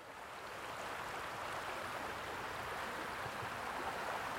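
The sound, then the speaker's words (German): A steady, full rush of water flowing in a brook fills the scene, continuous, with broad hissing texture and no voices or breaks. “Hier schnappt sich jeder so einen Stein, setzt sich in den Bach und du hast dann da wirklich so den Effekt, dieses Rauschen vom Wasser, das verschluckt ja alle Geräusche, die so außenrum sind.”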